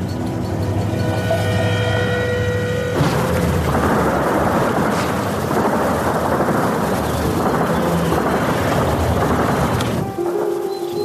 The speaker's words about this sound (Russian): На окраине Горловки под эхо автоматных очередей мирно гуляют люди. Здесь, похоже на такую канонаду, привыкли не обращать внимания. Ладно. Вот так автоматы стручат часто, а вот так вот взрываться, как сейчас, пореже.